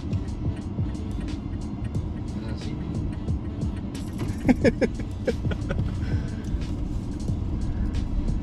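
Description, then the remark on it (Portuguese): A car makes an extremely smooth, slow turn to test the stress on its rear wheels, with a steady low engine and road rumble throughout, while a few light clinks and rattles break through briefly around the middle. “Bom, agora a gente vai testar o estressamento das rodas traseiras, fazendo uma volta extremamente suave.”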